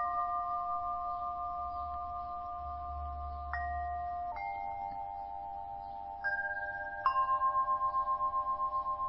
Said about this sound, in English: Just as there can be space between the bells where there's a moment of silence and you are aware of the silence